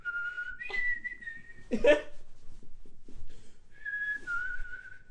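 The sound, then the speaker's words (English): Someone whistles steady, wavering notes while being tickled, breaking off midway with a sudden breathy yelp or laugh, then resuming the whistle in a slightly lower, unsteady pitch. “It's very difficult to whistle sensibly when you're being tickled.”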